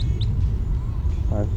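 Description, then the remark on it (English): A goldfinch calls as it flies over: two quick, thin, high chirps right at the start, fairly faint above a steady low rumble of background noise. “Goldfinch flying over.”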